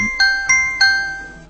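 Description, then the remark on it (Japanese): A bright three-note chime rings out in quick succession, each tone sustaining and overlapping into a shimmering ring that slowly fades, a quiz-show ding-dong signalling a correct answer. “いい思い出ピンポンピンポーンと。”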